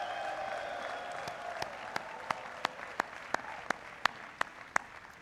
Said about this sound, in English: Graduates, give a big round of applause to your family for everything that they've done for you.